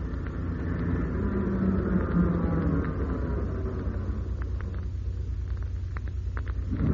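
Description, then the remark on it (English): A lorry drives past the end of a track without stopping, a steady deep engine drone with low-pitched tonal hum that rises and then gradually eases off, with no voices over it. “They've just gone past the end of the track.”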